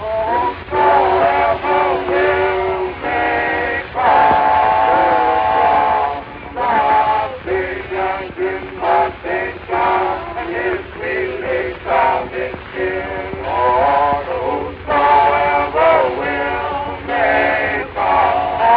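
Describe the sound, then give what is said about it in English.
A train carrying laborers out of Jacksonville, Florida, in 1916 rumbles along the tracks while its whistle sounds in a series of loud, wavering blasts, some long and some short, prominent, with no one speaking. “Within weeks after the first train load left Jacksonville, the exodus had begun in earnest.”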